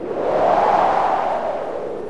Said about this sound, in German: Hört ihr das Rauschen des Windes? Ja, ich höre es auch.